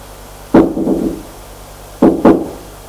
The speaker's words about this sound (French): Et va frapper à la porte de droite parce que c'est la seule qui a un nom.